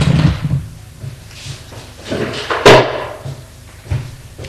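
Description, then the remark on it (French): A drawer is handled as someone searches it for money, with scraping wooden movement, several soft knocks and one sharp bang partway through, then quieter shuffling. No one speaks. “Il trouve de la monnaie dans un tiroir et quelques billets.”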